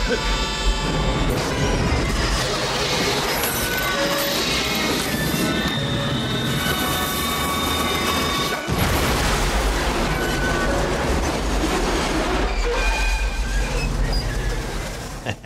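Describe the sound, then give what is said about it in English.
A loud train wreck crash sound effect on a sports radio show on Chicago's 670 The Score: a continuous roar of grinding, screeching metal and heavy rumbling that fills about fifteen seconds, with a brief jolt partway through before the chaos resumes. “Now that's a train wreck.”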